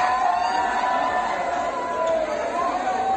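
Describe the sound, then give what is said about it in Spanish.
A dense crowd of young people in the historic centre of Málaga shouting and yelling over one another without masks or social distancing, a continuous loud roar of overlapping cries with no pauses. “Y esto que suena no son más que jóvenes gritando unos encima de otros, sin mantener distancia de seguridad, sin mascarilla, una situación que vienen denunciando los vecinos del centro.”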